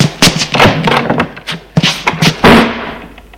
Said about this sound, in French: Une fois que la porte est claquée